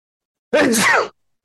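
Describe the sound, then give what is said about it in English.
A single loud sneeze: a brief voiced intake that bursts into a sharp, breathy 'choo', lasting about half a second, with silence on either side. “And gosh, I'm going to sneeze here.”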